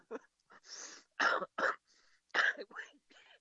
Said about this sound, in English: Sorry for the cough.